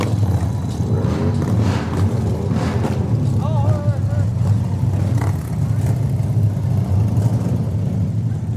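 Motorcycle engines rumble loudly and steadily throughout, a thick low growl with brief revving swells, amid a crowd's background murmur, at the fifth Moto Rock Fest in Kedgwick, New Brunswick, Canada.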